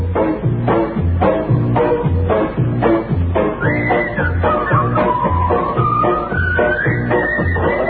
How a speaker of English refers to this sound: Thank you, Whistlers, the Whistling Teamsters.